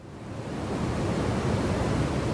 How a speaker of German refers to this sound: So hört es sich an, wenn man auf Island der Atmosphäre im großen Stil CO2 entzieht, um damit das Weltklima zu retten. Was von vorne aussieht wie ein Sammelsurium gigantischer Riesentoaster, sind in Wirklichkeit hocheffektive CO2-Luftfiltersysteme.